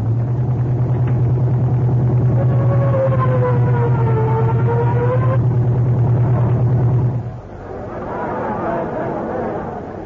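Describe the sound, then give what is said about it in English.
A police captain's car engine roars loud and steady as it speeds to the Crescent Garage on the east side, with a siren wailing over it partway through, then the engine cuts away to a murmuring crowd. “Yeah, step on it”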